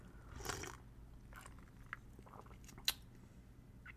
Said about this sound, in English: Let's drink it. Let's get this first sips going. Let's dig into it. So here we go. Ooh, okay. I see what we're doing here. Let me get... just a little more here. Get another sip.